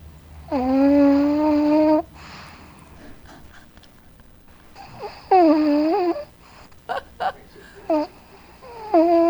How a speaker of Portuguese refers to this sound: Tá ruim esse ronco, né, doutora? É o pug? Esse é o meu pug.